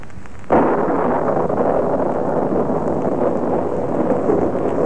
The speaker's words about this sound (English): Raining again. Oh, what a climate.